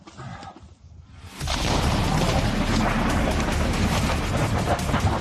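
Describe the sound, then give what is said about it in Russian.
After about a second of near quiet, a powerful explosion erupts with a sudden blast as soldiers of the 255th Guards Motor Rifle Regiment destroy a Ukrainian S-300 air defense system at close range. A loud, sustained rumbling roar then persists without letup to the end. No one speaks. “Несмотря на мощный взрыв, никто из наших военных при уничтожении украинского комплекса ПВО не пострадал.”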